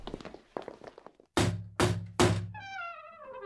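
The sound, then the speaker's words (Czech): Three loud, heavy bangs on a courtyard gate in quick, even succession, each booming and resonant, after faint murmuring; a thin, wavering high-pitched cry follows the last blow. “Proč boucháte na vrata?”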